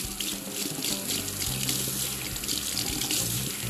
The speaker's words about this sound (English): So leave this water on for a bit, people. I know it's audible. Bear with me.